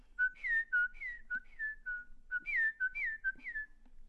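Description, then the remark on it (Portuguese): A person whistles an imitation of a sabiá thrush's song: two phrases of clear, fluty notes that slide downward in pitch, separated by brief pauses, with no talking. “Acho que esse é que é o sabiá, né?”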